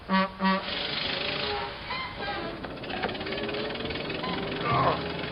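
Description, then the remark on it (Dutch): Two quick sputtering bursts give way to a rough, knocking car engine that catches and rumbles steadily, growing a little louder near the end as it pulls away, on deserted streets in pouring rain. “Hij slaagde er zelfs in zijn auto op gang te brengen voordat de achtervolger hen had ingehaald.”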